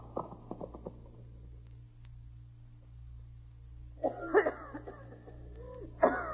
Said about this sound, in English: There now, honey. Try to stop coughing.